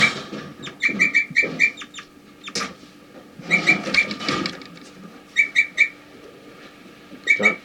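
Short, high chirping bird calls come in quick clusters of three or four, repeating several times with pauses between bursts, over a soft background hiss with a few rustling thumps.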